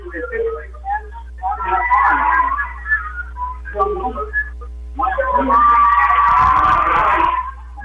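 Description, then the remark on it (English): A referee's whistle blows to start a wrestling bout over a noisy gym crowd, with shouting and cheering swelling around it; the crowd noise rises and falls in bursts before a long, loud stretch near the end. “Off the whistle”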